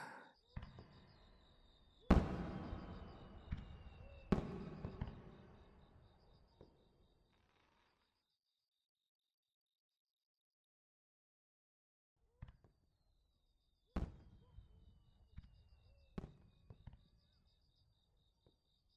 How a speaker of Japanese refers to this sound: どこで上がってるんだろう。 え？ 花火。 ほんとだ。音だけ聞こえるね。 窓からは…無理か。見えない。